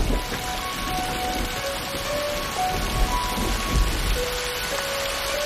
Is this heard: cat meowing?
no